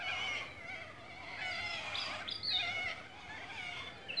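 Birds chirp in short, high, warbling bursts over a steady buzzing hum of insects, with a few brighter whistles standing out midway through. No one speaks.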